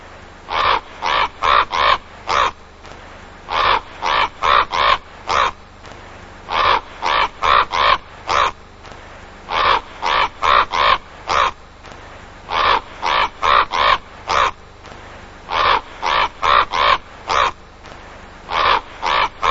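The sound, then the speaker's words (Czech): A bird calls loudly and harshly, cawing in quick bursts of four or five that repeat steadily with short pauses between groups, with no talking. “a teď tam bude lítat chvilku pták.”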